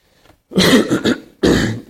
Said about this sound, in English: I also played basketball last night, which means that I had two collapsed lungs. And I always have to cough after I play basketball a lot the day after, so I'm going to cough a little bit here.